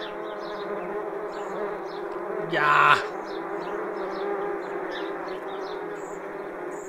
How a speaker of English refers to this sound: I have a wasp problem. That's right, wasps. You know what I'm talking about. Oof. Even the sound.